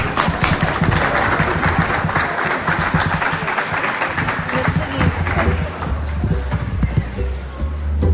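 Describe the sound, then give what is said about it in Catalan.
Sustained audience applause thanking two presenters at a session of presentations, a dense crackle of many hands clapping steadily for about eight seconds. It stays loud throughout, and a low murmur of voices rises beneath it toward the end. “Moltíssimes gràcies, un aplaudiment.”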